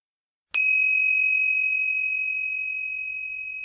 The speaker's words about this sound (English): We will begin and end this meditation with the sound of the bell.